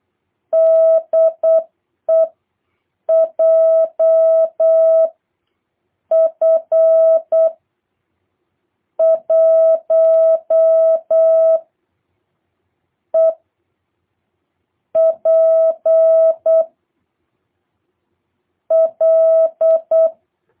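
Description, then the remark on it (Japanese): A steady single-pitched tone keyed on and off in short dots and longer dashes, sending the Morse code call sign JF1EPR in clear, loud bursts with brief pauses between groups, no voices present. “ジュリエット、フォックスロット、ワン、エコー、パパ、リマ。”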